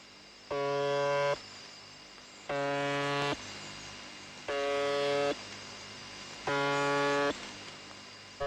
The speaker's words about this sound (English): Most monitors seem sure that the number stations are a part of international espionage, but some signals remain elusive. There are a few strange stations, I must admit, like the buzzer on 4625 kHz.